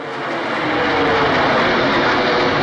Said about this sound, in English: And then at 8:46, we heard this loud noise of a plane coming overhead, which you never hear in Manhattan because of the tall buildings.